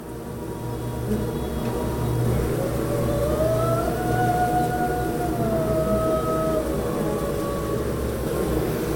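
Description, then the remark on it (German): A dense, steady hum of bees in the approach lane of a hive in Bert Hoffmann's sound installation fills the whole stretch, and long sustained voices of a lay chamber choir rise over it partway through, holding high drawn-out tones before slowly fading back into the buzzing. “Hier hört man ihr Summen, überlagert von den Stimmen eines Chors.”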